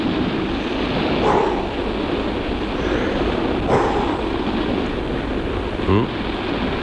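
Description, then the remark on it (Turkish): A dog barks three times, spaced a couple of seconds apart, against a steady roar of wind and surf. The barks are short and moderately loud. “Bir de köpek geldi başına.”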